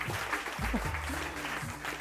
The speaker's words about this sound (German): Jetzt ist der Applaus ja doch ein bisschen lauter.